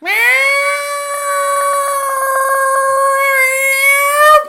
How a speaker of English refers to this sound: And for that long too, yeah. It doesn't even do like a small meow. It's like really long.